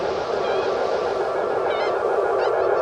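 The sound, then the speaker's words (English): A few short bird honks come through over the loud, steady rushing noise of a blow dryer, spaced irregularly across the few seconds with no one speaking. “That bird is annoying.”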